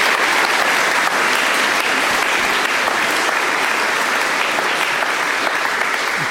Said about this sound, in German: Bitte einmal kurzen Applaus für Team Content.